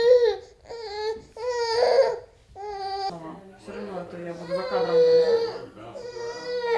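An infant cries in short, wailing bursts, pitch rising and falling between breaths, with fussy babbling whimpers mixed in; fairly loud, no one else speaking.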